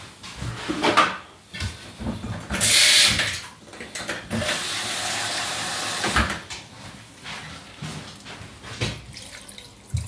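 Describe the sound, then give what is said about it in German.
Water is added to a hot pan of peppers with a sharp burst, then a steady, loud steaming hiss that lasts several seconds before fading, with clattering kitchen noises around it. “Das ist hier schon schön warm. Ja, so, jetzt kann man nach Belieben. Machst du ein bisschen Wasser dazu.”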